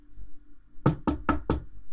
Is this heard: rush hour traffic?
no